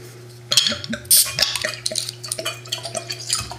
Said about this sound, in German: Ich packe hier mal meinen Ofen, da versuchen wir irgendwie zwei Flaschen auf drei Gläser aufzuteilen.